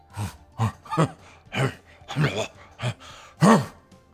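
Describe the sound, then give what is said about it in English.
A person imitates gorilla noises: a series of about eight low, breathy vocal grunts in an uneven rhythm, ending with a louder, drawn-out hoot. “Would you like me to do gorilla noises?”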